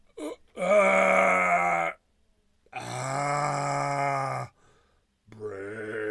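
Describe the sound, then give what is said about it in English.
Someone imitates zombie groans: three drawn-out, raspy moans with gaps between them, loud, each held for a second or two with no words. “He wants zombie noises for the pod.”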